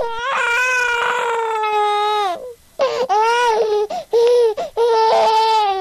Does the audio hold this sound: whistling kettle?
no